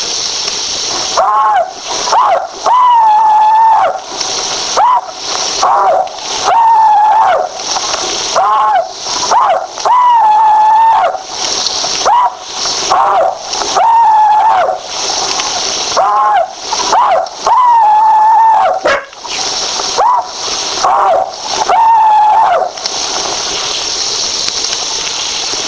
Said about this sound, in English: Now, here is one Confederate veteran's rebel yell.